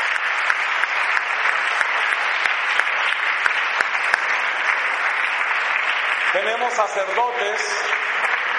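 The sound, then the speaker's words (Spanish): An audience applauds the nuns steadily, a dense, even wash of many hands clapping that lasts the whole stretch, with a voice briefly rising over it near the end. “A ver quién le da un aplauso a las hermanitas, por favor.”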